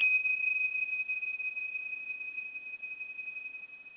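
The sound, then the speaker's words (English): A single high, bright tingsha chime is struck, then rings out as a long, pure sustained tone that fades only slightly over several seconds. No voices are present. “So breathe in as these particular sounds of these tingshas will sort of move through that phone and send energy out, and a cleansing energy that surrounds each of us and begins to knock off any of the lower vibrations that are hanging on as a result”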